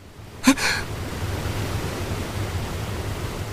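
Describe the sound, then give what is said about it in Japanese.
A steady, dense rush of falling water from a waterfall roars without pause, with one brief sharp knock near the start standing out above the constant noise. “水の砕けるあたりから、”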